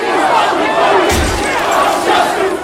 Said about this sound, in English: No police, no justice, no police. A young woman beside Lila pumps her fist. Lila shakes her fist and chants along.